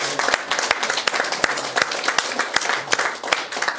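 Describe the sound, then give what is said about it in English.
An audience claps in a steady round of applause for a couple's 57th wedding anniversary, many hands making a dense, bright patter with sharper individual claps popping out at irregular moments throughout. “An appropriate round of applause for them.”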